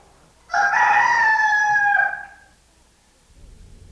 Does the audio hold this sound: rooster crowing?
yes